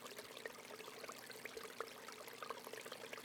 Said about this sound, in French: Percevant les joyeux bruits d'un ruisseau tout près, tu te diriges tranquillement vers son chant.